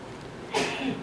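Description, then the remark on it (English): A single sneeze bursts out halfway through, a brief breathy blast that fades quickly against a quiet background, with no talking. “God bless you.”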